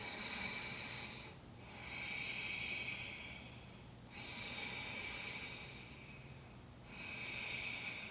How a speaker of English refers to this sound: So this technique comes from Ashtanga Vinyasa Yoga. It's called Ujjayi. As you breathe, you're going to make an aspirant sound. You could also think about how Darth Vader would breathe.